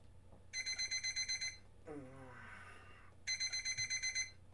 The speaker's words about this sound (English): As always, I burrow out from under the covers and feel for the alarm clock and turn it off. Click.